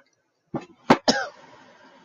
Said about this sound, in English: Sorry, I have a lingering cough from I don't know what.